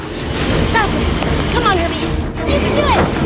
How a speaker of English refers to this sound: The truck rides up the two crashed cars and looms over her like a monster. She slowly turns around to see its two front wheels coming down on top of her.